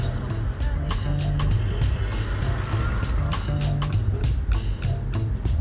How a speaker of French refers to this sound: Par la fenêtre du taxi, Marseille défile.